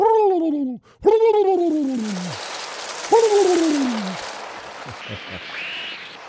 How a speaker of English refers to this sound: I went to go find, I wanted to find a nice soundbite of chickens, or not chickens, but pigeons coming home to roost.